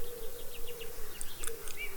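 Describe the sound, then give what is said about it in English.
Soft birdsong of short, repeated chirps and a few high, thin whistles over a steady low buzzing drone, with no talking. “Can you hear the bird song?”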